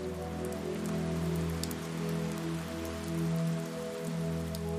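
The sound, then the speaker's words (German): Steady rain patters continuously on a hard surface in a street lined with old houses, with scattered sharper drops ticking through, over a low constant hum; no voices. “Und das frische Wasser des Regens lässt ihre Farben noch lebendiger erscheinen.”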